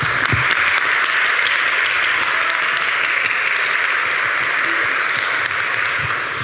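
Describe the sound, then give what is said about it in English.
Sustained audience applause for a speaker after her talk, a dense steady wash of many hands clapping at an even loudness throughout, with no voices standing out above it. “Give her a big clap.”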